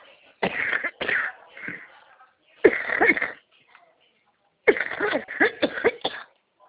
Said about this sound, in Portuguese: Nossa, esse dia estava ruim de tosse também. Desculpa aí, mas eu tô com uma gripe.